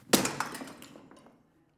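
Pottery smashes with one sharp, loud crack, followed by a quick scatter of smaller clinking fragments that fade out within about a second. No voices are present.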